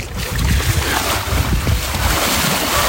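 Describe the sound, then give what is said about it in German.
Steady sea surf washes continuously, a broad hissing roar with a low rumbling undertone and gentle swells in intensity, fairly loud, with no voices: a sea-surf sound effect for a beach on the Baltic Sea. “Ich mach noch ein ganz klein bisschen Meeresrauschen.”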